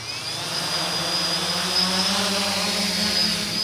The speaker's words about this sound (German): 2 Drohnen starten in einem riesigen Käfig, 15 Meter hoch, erinnert an eine Vogelvoyere.